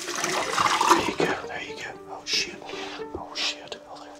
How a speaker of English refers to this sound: It's not only the fact that he is right now pouring potassium cyanide into a bucket in front of me that makes me wonder this.